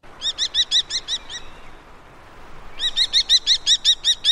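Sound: common kestrel call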